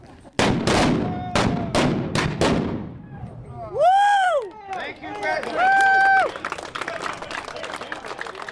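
antique cannon firing

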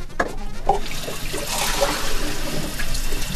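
running water

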